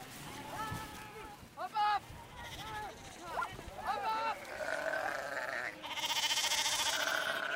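Several sheep bleat in a round pen surrounded by a white fence, overlapping wavering calls coming one after another, with rustling and shuffling of the flock and a louder hissing noise toward the end.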